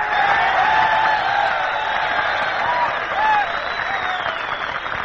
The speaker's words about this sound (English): Fellas, you can keep on applauding because here she is, radio's number one singer